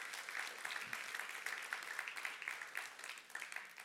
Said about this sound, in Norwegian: Gud gjør ting, vet du. Ja, det verdt en applaus.